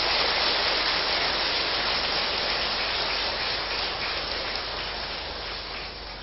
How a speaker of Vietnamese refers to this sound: Xin cho một tràng vỗ tay thật là lớn.